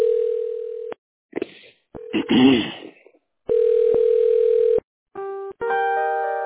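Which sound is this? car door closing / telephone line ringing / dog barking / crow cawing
telephone line ringing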